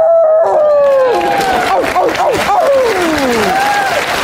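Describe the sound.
Several people howl like wolves at the 2020 Oscars ceremony, their rising and sliding cries overlapping loudly, over a bed of crowd noise and what sounds like applause and cheering.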